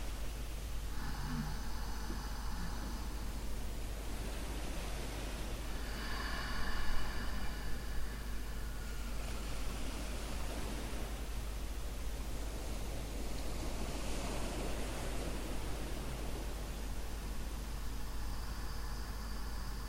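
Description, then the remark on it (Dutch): Loud, ocean-like breathing: several slow, rushing inhalations, breathed slightly harder to make the sound of the sea, swell and fade in a steady rhythm, airy, over a soft continuous hiss with a faint sustained musical tone underneath. “En je kan het geluid van de zee maken bij je inademing door iets harder te ademen.”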